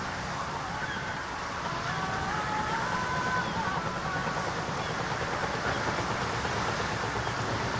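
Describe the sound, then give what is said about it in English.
A steady, full wash of sea noise surrounds a rusty fishing trawler, its hull reading Angela plus Rose, as waves rock it at sea in the film Coda, with a few faint honking, bird-like calls drifting over the continuous rumble. “A rusty fishing trawler rocks with the waves.”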